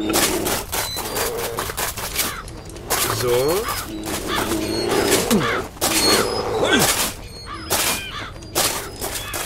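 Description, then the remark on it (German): A video game crow calls repeatedly in harsh, rising cries amid loud bursts of game effects, with a man talking over much of the noisy scene. “Diese scheiß Krähe.”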